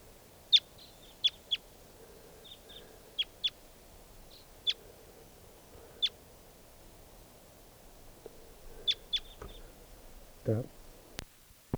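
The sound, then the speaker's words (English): Wild birds give sharp, high chirps in short scattered bursts, singly and in pairs, over a low, steady background hum, with a brief muffled rustle and a click near the end. “And more wild birds are coming around.”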